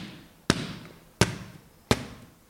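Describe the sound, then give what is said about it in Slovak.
Three firm slapping thumps land at a steady, evenly spaced pace: back blows struck between the shoulder blades of a child lying face down on the striker's thigh, each sharp with a brief fading ring afterward. “Dieťa si položím smerom dolu tvárou na stehno, nasleduje 5 úderov medzi lopatky, tak aby sme teda cítili, že to teličko navibruje na ruka.”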